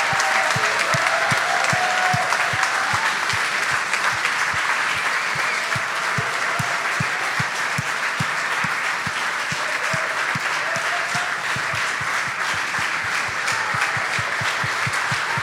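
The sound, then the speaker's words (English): Steady, dense applause from a large standing audience cheering to celebrate and honor a group of people, many hands clapping in a continuous loud patter for about fifteen seconds, with a few faint cheers and whoops rising through it. “So let's stand up and do that right now and cheer them on, applause, and just recognize, look them in the eye and champion them.”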